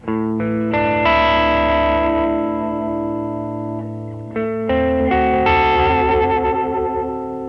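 Electric guitar chords played through a Quiet Theory Prelude delay and reverb pedal, two loud strummed phrases whose notes ring on and smear into long shimmering tails. No one speaks.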